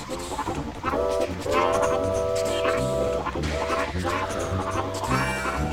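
A train rolls past on the tracks with a steady, loud rumble, and long sustained horn-like tones sound over the noise in two stretches.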